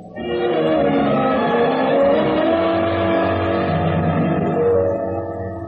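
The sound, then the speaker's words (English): A car engine hums steadily as the vehicle drives along, its rising and falling pitch suggesting gear shifts, loud with no voices. “Go ahead. It's your car.”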